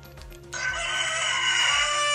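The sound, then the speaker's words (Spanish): A young, growing rooster crows loudly, one long strained call that begins after a brief pause and holds steady to the end, with no talking over it. “¿Están listos para escuchar a Esperancito?”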